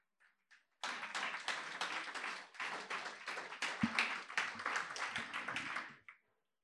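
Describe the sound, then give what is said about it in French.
Audience applause breaks out after a brief pause following a Bible Project video, a dense, steady wash of many hands clapping that holds strong for about five seconds before cutting off quickly. “Merci de ne pas applaudir la technologie, mais le message.”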